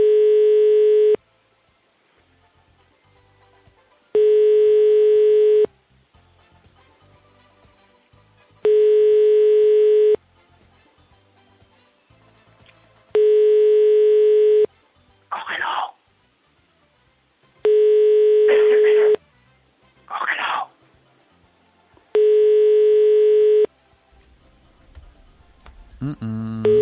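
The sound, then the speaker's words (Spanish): A telephone ringback tone repeats while a call is placed: six steady, loud beeps, each about a second and a half long, separated by regular pauses with faint background noise between them. “Estamos llamando, que está la cosa hoy.”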